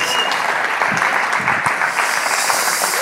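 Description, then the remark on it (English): A crowd claps steadily in a dense, continuous wash of applause that stays loud and even for about three seconds, with no voices standing out; a church audience welcoming a guest pastor from Melbourne, Australia. “So please welcome Andrew Russell with a great big shalom, shalom, and a round of applause.”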